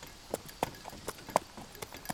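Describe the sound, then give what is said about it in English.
Horse hooves clip-clop along an unpaved dirt street in a steady, slightly uneven trot, each hoofbeat a sharp knock, with no voices. “We would have heard horses, you know, horse hooves up and down the street.”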